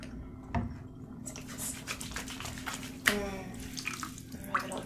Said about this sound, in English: The water's draining and the bathroom's pretty full.